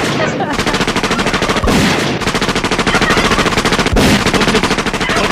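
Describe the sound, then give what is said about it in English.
Loud, sustained bursts of rapid automatic gunfire while hunting turkeys, shots rattling off in a fast, even rhythm for about five seconds, broken only by a couple of brief pauses. “Is hunting turkeys like Scarface. Mowing down turkeys.”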